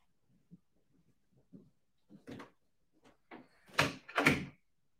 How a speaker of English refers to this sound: Okay, give me 3 seconds, I'm just going to close the door.